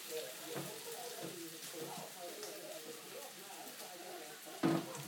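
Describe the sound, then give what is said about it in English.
Food sizzles in a frying pan as it is stirred, with a steady crackling hiss, punctuated by a few soft scrapes and a brief louder clatter near the end. “This frying pan tends to spin round when you're stirring it, though.”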